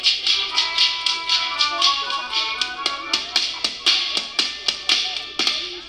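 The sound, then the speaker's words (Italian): Sharp whip cracks by the folk group Frustatori di Ferno snap in a steady, quick rhythm, about three or four per second, over sustained melodic music. The cracks are loud and crisp, and no one speaks. “Colpi di frusta a ritmo di musica.”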